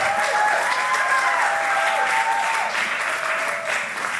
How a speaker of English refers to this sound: So now what I want to do is, if you have been participating in nonviolent civil disobedience over the past 6 weeks, please raise your hand. And let's give those folks a huge round of applause.